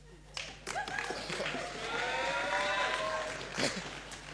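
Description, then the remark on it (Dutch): An audience cheers and whoops for several seconds, a dense wash of voices with rising shouted tones and a few sharp claps, swelling midway and staying loud to the end. “Wat een gejuich, jongen.”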